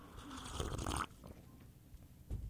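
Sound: sipping coffee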